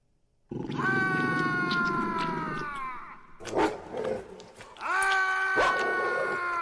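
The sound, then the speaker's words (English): A dog eating guts gives loud, drawn-out, gurgling barks and snarls with guts in its mouth, two long harsh calls separated by a brief burst of chomping and growls, with no talking. “That dog can bark really well with guts in its mouth.”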